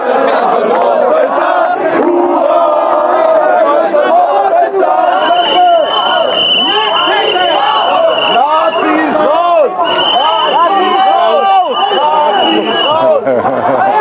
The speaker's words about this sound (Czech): Tak ty píštěli, který tady slyšíme, tak to je právě Antifa. Ale nemá nějak moc hesel, evidentně. Takže dokáže jenom pískat a zatím strana nevolaj, neřvou, neulákaj.